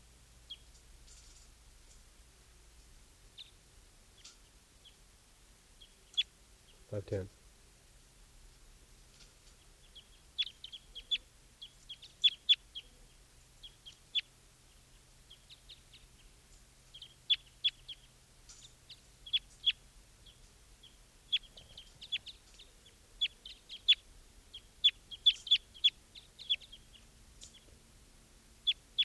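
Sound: wild birds clucking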